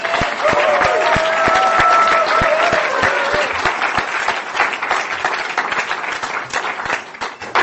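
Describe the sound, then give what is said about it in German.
A crowd of people claps steadily for several seconds, a dense patter of many hands with a few voices calling out near the start, fading slightly toward the end, as the audience applauds themselves for being there and being sober. “Es ist, ihr solltet euch selber Applaus geben, dass ihr hier seid und dass ihr trocken seid.”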